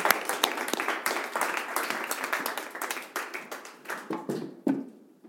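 A crowd applauds with dense, steady clapping that stays fairly loud before thinning out toward the end, a few sharp individual claps standing out near the finish.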